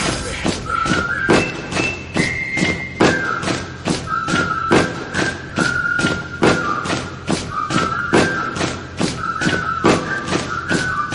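Feet stomp on a floor in a steady, fast rhythm, each thud sharp, while a high whistling tone drifts along over the beat.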